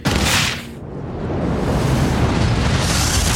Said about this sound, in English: The wall in front of Grace glows red hot. Brace yourself, she yells into the Major's ear. The wall bursts, and there's a roaring rush of air as the atmosphere rushes into space.